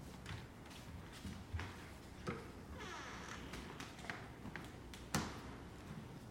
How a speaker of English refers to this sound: Sergio walks back down the stairs, her head down, and walks past Nima into the bedroom, closing the door behind her.